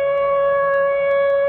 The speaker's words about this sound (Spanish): ¡Escuchadle! Desde él se elevan los gritos de las sirenas que llaman a los hombres a su trabajo en las fábricas.